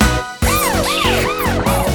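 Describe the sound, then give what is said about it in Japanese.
A police patrol car siren wails in steady rising-and-falling sweeps, about three cycles, loud, over a rhythmic musical backing with a regular beat, in a song about a patrol car dispatched to an incident. “事件発生、パトカー出動。 ピポピポピピピピピポピポポポポポピピポポピピポポイエーイ。”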